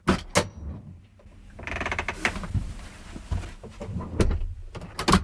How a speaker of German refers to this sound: Dann Öl oder Fett in den Zwischenraum der Scharnierhälften schmieren oder sprühen. Die Türe schließt nun wieder geräuschlos.